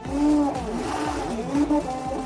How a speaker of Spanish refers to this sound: Así suena una impresora 3D y muy pronto los filetes no van a salir de las carnicerías, ni de los mataderos, ni de las macrogranjas.